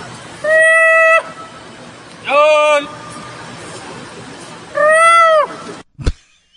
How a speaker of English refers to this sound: So, well, it seems like you're all in agreement on one thing, so why don't I take you out to India and we can hear what's going on with the monkey whispers. Okay. Do you want to hear what the monkey call sounds like?